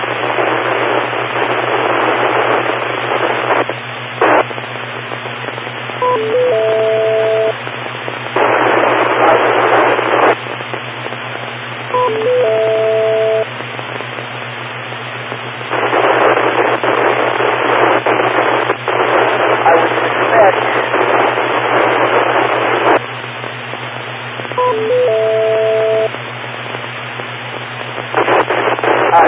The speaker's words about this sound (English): By the way, for information, there is absolutely no change in signal strength while I hear this, when I see this static, I'm watching the signal strength. That's not changing.